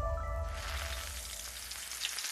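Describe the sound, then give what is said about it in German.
French fries sizzle steadily in a deep fryer, a dense, crackling hiss of hot oil, with a low rumble underneath and no voices. “Das saftige Brutzeln von Pommes in der Fritteuse.”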